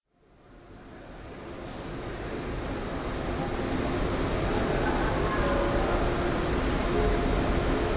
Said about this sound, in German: Achtung, auf Gleis 22 fährt der Intercity Express 621 aus Essen über Köln, Frankfurt, Würzburg, Nürnberg ein. Planmäßige Ankunft 14.04 Uhr. Bitte nicht einsteigen. Dieser Zug endet hier.